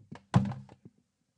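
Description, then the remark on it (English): A few heavy, dull thumps against a stuck door, one hard central blow flanked by lighter knocks, irregular, with no one speaking. “The door is stuck.”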